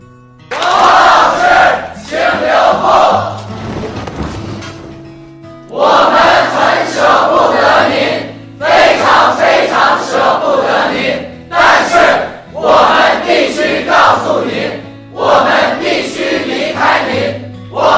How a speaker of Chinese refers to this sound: 我毕业了，对这句话最初最强烈的感受是在看《奋斗》的时候产生的。大学毕业前，全体同学和王老师告别，集体大喊。